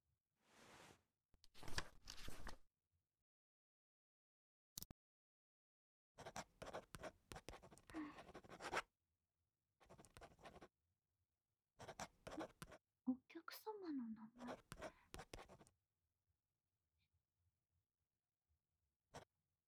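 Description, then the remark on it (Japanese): A ballpoint pen scratches across paper in several short bursts of writing separated by pauses, with a few faint rustles and one sharp tap between strokes, as a name and phone number are filled in on a consent form. “こちらの紙に、お名前と電話番号をご記入くださいね。”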